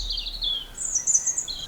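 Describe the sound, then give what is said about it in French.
A European robin sings a short, high, thin warbling phrase of rising and falling notes, fairly clear against a faint low background hum, with no one talking. “Là, par exemple, vous avez la jolie strophe d'un rouge-gorge qui chante.”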